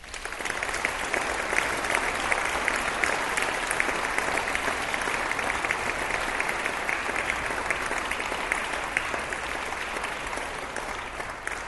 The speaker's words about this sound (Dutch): En natuurlijk dank ook aan u allen voor uw aandacht en voor uw warm applaus.